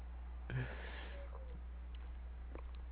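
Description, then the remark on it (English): A single breathy yawn, starting with a sharp intake and trailing off into a soft sigh over a steady low hum. No other voices are heard. “Forgive me for yawning.”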